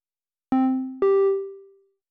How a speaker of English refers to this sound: The following data sonification maps 1 week of precipitation data before, during, and after the hurricane. The start and end of the storms passing over the array are indicated in the mix.